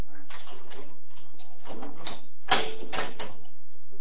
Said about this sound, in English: Come on. Let's have a look. All right. I'll get the door.